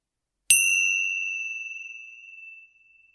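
A single bright meditation chime is struck once to begin a meditation session and rings out alone, its clear, pure tone shimmering slightly as it slowly fades over a couple of seconds into silence.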